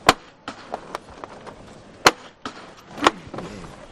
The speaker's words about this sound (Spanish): De un momento a otro va a llamar el capataz. Vamos a escuchar esa levantada, ya habla con sus auxiliares. Primer golpe de martillo.